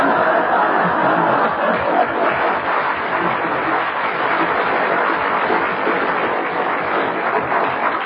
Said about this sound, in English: You have received your round of applause. You've made your presence felt.